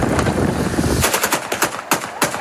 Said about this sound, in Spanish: En realidad entraba en Damasco sin disparar y los disparos eran el sonido de la celebración.